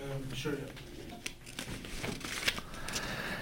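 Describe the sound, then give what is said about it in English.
A sheet of paper, offered for taking a note, crinkles and rustles in a few short, scratchy bursts, with a voice murmuring faintly in the background. “Do you want a sheet of paper?”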